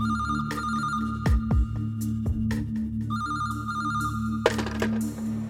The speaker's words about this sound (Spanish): Y entonces a las 5:29 me senté frente al teléfono a esperar que sonara. A las 5:30 en punto, sonó.